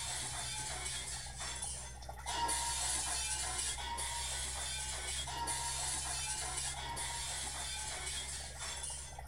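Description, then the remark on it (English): Glass cracking in a tank: a continuous, high-pitched brittle crackle with splintering clinks, briefly easing every couple of seconds, over a steady low hum. No one speaks. “This is the time I hear the high-pitched noise of glass cracking.”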